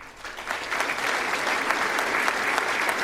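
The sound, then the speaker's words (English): An audience at a convention claps steadily for the staff and student volunteers, a dense wash of many hands that swells in the first second and then holds at an even, fairly loud level, with no voices. “And don't clap after this one, but Dean, too.”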